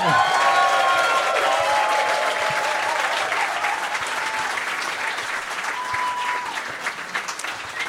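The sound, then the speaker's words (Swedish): A concert audience in Sweden applauds a singer and a jazz trio at a tribute concert, loud and steady, the dense clapping sustained throughout, with faint whistles or cheers rising over it early on before it eases slightly toward the end. “En varm applåd för”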